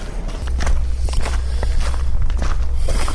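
Slow footsteps walking down toward the reconstructed Roman amphitheatre at the Viminacium archaeological site, at an unhurried, steady pace, each step a soft crunch over a constant low rumble, with no talking.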